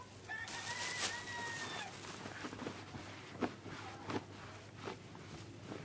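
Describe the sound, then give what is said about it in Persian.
Several chickens cluck and call in a steady chorus at nightfall, with a longer drawn-out squawk near the start and a few sharper clucks later over a low background hum. “مرغا رو جا کن، شب شد”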